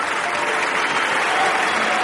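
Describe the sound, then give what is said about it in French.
A film festival audience applauds steadily as Luc Jacquet's film La glace et le ciel is presented out of competition at the festival's closing in May, a dense, continuous wash of many hands clapping at an even, fairly loud level throughout, with no voices standing out. “Les festivaliers qui applaudissent à tout rond.”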